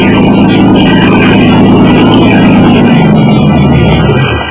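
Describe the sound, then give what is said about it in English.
The engine of an approaching motor launch, filled with men and towing a small boat, drones loudly and steadily, a thick low rumble with a broad churning hiss, holding constant for several seconds before easing slightly at the end. “Leading toward us was a motor launch filled with men, and with a small boat in tow.”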